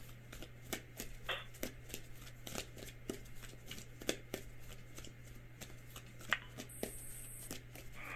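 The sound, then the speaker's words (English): A deck of cards being shuffled for a card reading, a steady run of crisp riffling snaps and flutters repeating for several seconds over a faint background hum, with no one talking. “And please say, stop shuffling”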